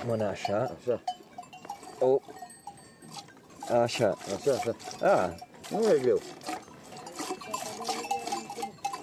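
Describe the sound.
Rhythmic squirts of milk hitting a pail as a cow is milked by hand, first by a beginner and then by a shepherd, steady, with people's voices talking over much of it and faint cowbells.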